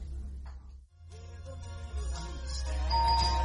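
A doorbell chimes several times in quick succession, its ringing tones overlapping over a steady low hum, growing louder toward the end with no one speaking.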